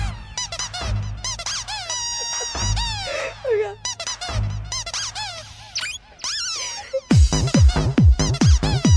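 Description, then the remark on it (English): A rubber duck squeaks over and over in quick, high, wavering bursts, loud and shrill, with a faster run of sharper squeaks at the end and no talking. “It's a rubber duck.”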